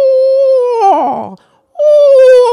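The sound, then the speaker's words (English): Children's voices imitate an owl's whinny: a loud, high held note that wobbles and slides downward, a brief pause, then another high sustained call that slowly dips. “This owl sounds up high and then it drops down. So it makes like a whinny sound.”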